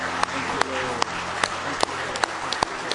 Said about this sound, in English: Give him a real good hand clap of praise.